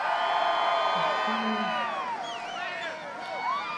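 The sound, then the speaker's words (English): A large crowd at a Trump rally cheers and whoops continuously, many voices overlapping in a loud, sustained roar with rising and falling shouts, fading slightly midway before swelling again. “Trump conducted a sort of applause meter test at the start to gauge the makeup of the crowd.”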